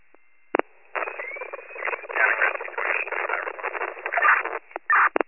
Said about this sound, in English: All static.